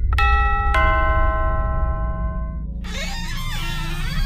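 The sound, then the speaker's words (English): A house doorbell chimes twice in a quick ding-dong, each tone ringing out and slowly fading, followed by a burst of muffled activity behind the door over a steady low background rumble. “We'll go ring the bell now.”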